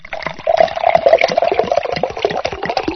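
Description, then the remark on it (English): Water pours steadily into a mixing bowl, a continuous splashing gurgle that holds fairly loud for a few seconds, with no voices over it; the water is being added, followed by oil, to make a cake mix. “Now I'm gonna pour some water into the bowl.”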